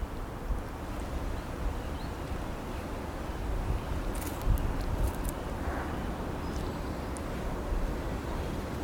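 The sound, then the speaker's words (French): Steady wind rumbles and buffets against a broad outdoor ambience, a constant low roar with faint, brief higher scrapes now and then, and no voices. “Le vent et le bruit de fond.”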